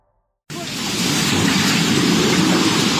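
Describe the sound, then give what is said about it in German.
After a brief silence, a loud, steady roar of rushing floodwater from a flash flood bursts in and surges on continuously, dense, with no voices. “Wassermassen, die ganze Dörfer wegreißen, Menschen werden mitgerissen.”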